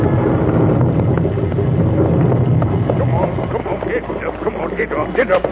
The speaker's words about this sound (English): It's a pleasant road on a summer day with the sun shining. But the devil's own highway at night in the winter rain. On just that sort of night, in 1768, a coach topped the rise of the hill. The mail bound east for Dover.